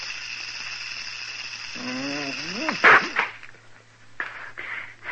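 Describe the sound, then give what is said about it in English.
A steady, airy snake hiss runs throughout, broken midway by a rising voiced whine and a sharp, forceful burst, followed by a few shorter hissing puffs near the end. “Go ahead. Snake. Hey, snake. Look.”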